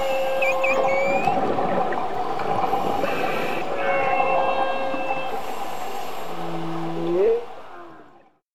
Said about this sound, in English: That's a whale.